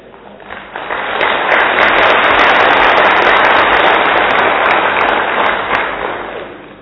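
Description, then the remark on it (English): An audience bursts into applause, many hands clapping in a dense, loud wash that swells quickly, holds steady for several seconds, then gradually tapers off. No one speaks. “Do you know at least clapping?”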